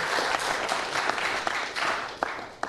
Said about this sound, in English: All right. Let's clap it up. That was good.